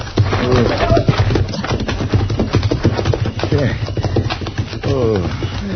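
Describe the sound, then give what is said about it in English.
Horses' hooves clip-clop in a steady, busy rhythm as the horses are taken out, mixed with low rumbling and bits of people talking. “saca los caballos. Apúrate, sal de aquí enseguida.”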